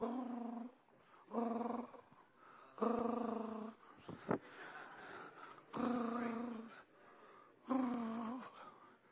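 A lion purrs and rumbles in a series of about six drawn-out, throaty bursts, each lasting around a second with short pauses between, fairly loud, with no talking.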